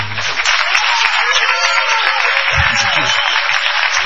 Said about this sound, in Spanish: Y propongo una ovación para el increíble trompetista de color, ….